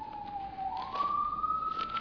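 An emergency vehicle siren wails steadily as it goes past, its tone dipping slightly and then sliding upward, with no voices over it.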